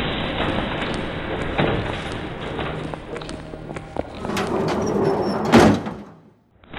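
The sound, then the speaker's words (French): Metro train sliding doors open and rumble along their track, with a sharp thud near the end as they close, over a steady background of station noise and faint murmuring voices. “Voilà un métro. On le prend?”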